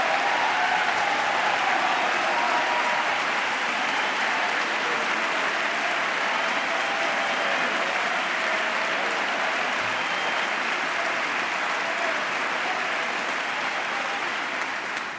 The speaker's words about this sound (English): And the unfortunate part of not doing this show in stereo is you couldn't hear most of that applause, certainly to that last line coming from the right, the Democratic side of the House.